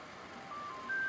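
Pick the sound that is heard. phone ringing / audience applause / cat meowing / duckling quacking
phone ringing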